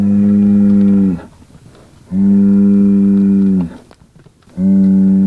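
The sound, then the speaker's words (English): Criollo cattle on a desert range moo three times in a row, each call loud, low and drawn out for over a second, with short pauses between them and no talking. “comparing how this group of Criollo compares to a group of Angus and Hereford crossbred to see how the cattle respond to the desert temperatures.”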